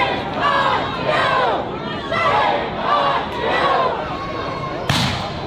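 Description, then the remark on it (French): A large crowd resisting ICE agents and trying to stop them leaving with arrested people shouts in loud, rhythmic waves, voices rising and falling together like a chant, with a sharp bang near the end. “La foule résiste et tente d'empêcher les agents de sortir avec les personnes qu'elle a arrêtées à l'intérieur.”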